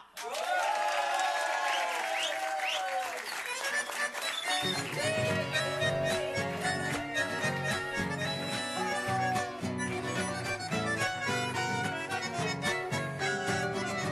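An audience applauds steadily and loudly over cheering voices, then a band kicks in with a thumping bass beat partway through while the clapping carries on underneath the music.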